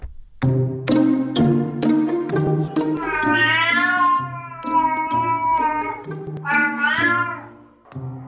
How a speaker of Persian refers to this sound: ایرانی‌ها با انواع صداهای گربه‌ها ناآشنا نیستند، اما فهمیدن معنا و مفهوم این صداها داستان دیگری است که اینک برخی از پژوهشگران می‌گویند به کمک هوش مصنوعی موفق به رمزگشایی از آن شدند.